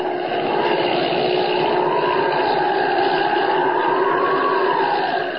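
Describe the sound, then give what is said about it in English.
Holbein's propeller airplane drones steadily overhead, circling as it gets ready to land at the Sudbury airport, its humming pitch slowly rising and falling. The roar stays loud and unbroken throughout, with no voices. “He's circling, getting ready to land.”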